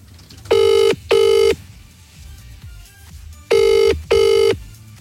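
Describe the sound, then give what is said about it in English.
A phone's outgoing ringback tone, heard while placing a call to the speaker's mum, sounds in two pairs of steady electronic rings, a short pause separating each pair, loud and clear over a quiet background with no talking. “So give my mum a ring. Right, where's my phone?”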